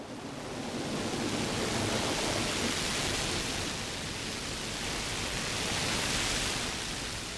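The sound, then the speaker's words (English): Heavy rain from a storm pounds steadily on the roof of a van, a dense, continuous roar of drumming that stays loud and even throughout, with no voices. “The rain came down very hard on top of the van.”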